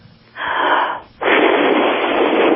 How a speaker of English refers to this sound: Take a deep breath and blow into the phone.